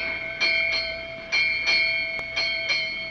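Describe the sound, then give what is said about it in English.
A ship's bell strikes eight bells, marking 8 o'clock in the morning aboard a sailing boat. It rings out in evenly spaced pairs of strikes, each clang sustaining a bright, shimmering tone that carries between the double strokes, with no voices present. “8 bells. 8 o'clock in the morning.”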